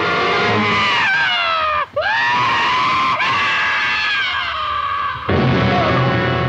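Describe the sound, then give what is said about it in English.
A man's loud, sustained scream as he is thrown out of a tree, with a harsh, strained pitch that wavers and cracks, breaking briefly twice before surging again, alone with no talking. “Also, I want to play the dude who gets thrown out of a tree scream just because Anne's scream is so much more badass.”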